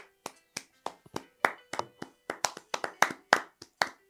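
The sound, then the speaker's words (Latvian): Brief applause: about fifteen sharp, crisp claps at an uneven, fairly quick pace over four seconds, sounding like just one or two people clapping, with no talking. “Aplaus mums.”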